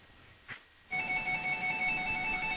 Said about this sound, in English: All right, folks, I apologize. We have another phone in the background here. Is that the caller? No, that's my private line.